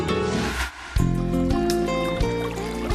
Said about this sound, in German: Dann jetzt bitte Ihr vertraglich vereinbarter Einsatz in unserer Arztserie. Der Jingle bitte.